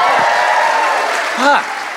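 An audience at a live show applauds steadily for about two seconds, a dense wash of clapping with a few rising whoops and cheers breaking through, one louder shout near the end, a round of applause for all the performers heard so far that night.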